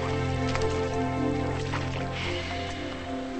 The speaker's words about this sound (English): He trudges through ankle-high water.